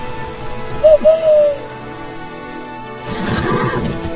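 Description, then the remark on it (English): A short two-part whistle, a quick rising chirp followed by a longer falling glide, rings out clearly; after a quiet pause, a rougher, rustling burst of noise fills the last second. “When I whistle, you've got to come.”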